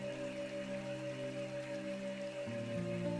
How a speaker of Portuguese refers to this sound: E tá chovendo ali no seu oásis interior, assim como tá chovendo aqui em Piracicaba agora, uma chuva gostosa. Faz uma respiração profunda, deixa essa chuva limpar tudo que não te serve mais.